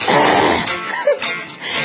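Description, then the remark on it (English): A raspy throat clearing, a rough, gravelly rumble that trails off into a few shorter guttural catches, with no talking around it. “Glad I'm not live yet. I could clear my throat.”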